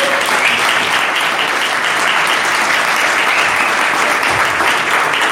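Loud, sustained applause from a crowd for a speaker, a dense steady clatter of many hands clapping without pause for several seconds, with no one speaking over it.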